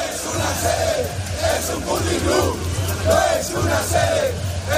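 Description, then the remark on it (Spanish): About 1,300 protesters outside the PSOE headquarters on Ferraz, on the tenth consecutive night, chant the slogan "no es una sede, es un puticlub" in unison, a loud rhythmic roar of many voices rising and falling in repeated phrases, steady throughout with no single speaker standing out. “A este grito que escuchan, no es una sede, es un puticlub, muchos manifestantes han aparecido con muñecas hinchables y caretas de Tito Berni, el diputado socialista implicado en el caso mediador.”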